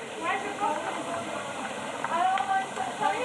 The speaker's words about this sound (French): Alors là, les pâtes sont presque finies. Vous entendez donc le bruit.